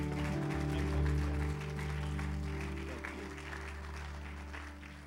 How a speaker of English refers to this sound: Give a round of applause for him.